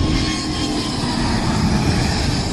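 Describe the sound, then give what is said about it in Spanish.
A wide-body airliner, flying again after months in storage, roars on takeoff at Teruel airport in Spain, its jet engines producing a loud, steady rumble with a broad hissing whine. The sound is constant throughout, with no voices. “Prácticamente a diario siguen despegando aviones de fuselaje ancho después de meses en estado de preservación.”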